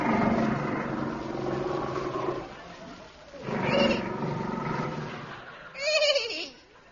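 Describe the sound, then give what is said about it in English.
A man-eating tiger roars loudly, one long rumbling growl followed by two shorter snarling bursts, with no talking over it. “What was that noise, my captain? A man-eating tiger.”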